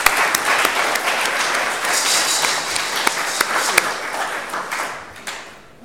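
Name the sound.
audience applauding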